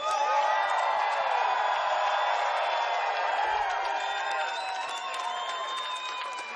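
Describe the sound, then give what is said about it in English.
A concert crowd in Budapest cheers and whoops in a loud, continuous roar, with shrill whistles and high yells piercing through, holding steady throughout before easing slightly at the end. “Make some noise for these guys, man.”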